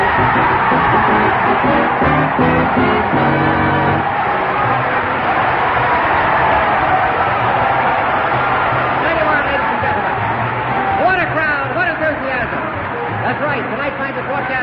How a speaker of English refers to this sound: And there's a record-breaking crowd gathered here in Billings at the Albadoo Shrine Temple to witness the championship battle of the week.